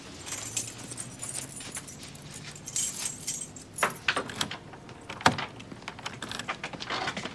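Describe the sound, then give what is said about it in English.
Keys jangle and rattle repeatedly at a stuck apartment door, with metallic clinks, a few sharper knocks and scrapes as the lock is worked. The sound is continuous, with no talking. “You get locked out of your apartment? No, the door's stuck.”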